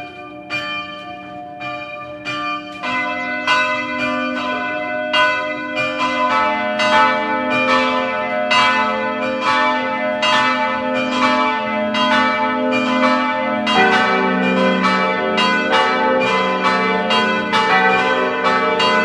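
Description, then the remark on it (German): The bells of the parish church in the mountain village of Pack, Styria, ring together at 12 noon in a steady, overlapping peal, their bright strikes repeating rhythmically over a sustained low hum. Loud, with no voices. “Sie hören die Glocken der Pfarrkirche Pack in der Steiermark.”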